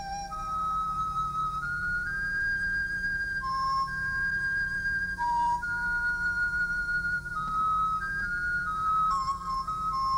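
A solo bamboo flute, played by the Buddha, plays a slow, breathy melody of sustained notes that glide between pitches, soft and steady over a faint low hum, with no voices.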